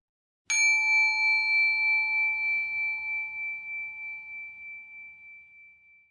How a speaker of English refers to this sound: When you hear the sound of the small bell, it will signal the end of our silent chant.